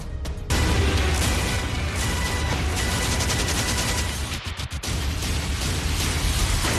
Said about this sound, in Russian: Слышны непрекращающиеся разрывы снарядов.